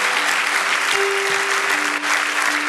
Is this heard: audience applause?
yes